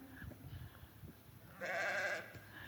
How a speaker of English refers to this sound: And the sheep.